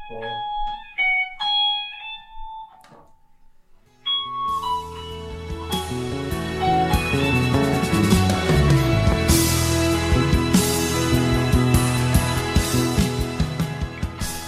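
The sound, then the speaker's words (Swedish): A few sparse, ringing guitar notes give way to loud, fast electric guitar playing on a plugged-in electric guitar: a dense, continuous run of rapid notes and chords with a bright, driven tone, with no talking. “om jag skulle plugga in den där fänden, skulle du kunna spela den för mig då?”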